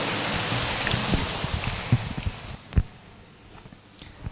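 An audience at a Buddhist gathering applauds to welcome a monk to speak, a dense, steady patter of many hands clapping, loud at first and then thinning out and fading over the last couple of seconds. No one speaks.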